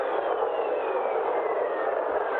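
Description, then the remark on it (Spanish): A NASA space recording of the planet Jupiter: a steady, rushing hiss with faint, slowly sliding whistle-like tones running through it, constant in loudness and with no voices. “Bueno, pues eso es lo que han hecho los científicos de la NASA para que sepamos cómo suenan algunos planetas.”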